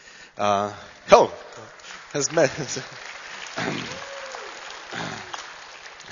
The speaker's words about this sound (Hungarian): Erre tapsoltok, mi lesz a végén? If you're clapping your hands, what's gonna be in the end?